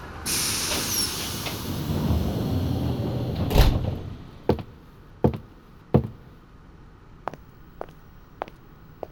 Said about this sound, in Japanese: 寝台列車クルーズトレインロイヤルセブン、まもなくドアが開きます。ご乗車になってお待ちください。